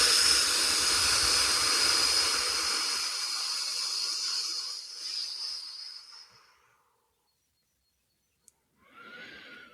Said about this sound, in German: der Drachenflügel bekommt und anfängt beim Ausatmen eine riesengroße Feuer, wie heißt denn das, Flamme nach draußen zu pusten. Und ich mag dich einladen, tief in den Bauch einzuatmen und richtig Feuer zu speien.